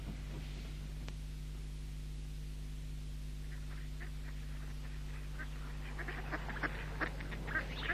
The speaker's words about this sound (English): It always amazes me how the ducks seem perfectly content in their freezing pond water.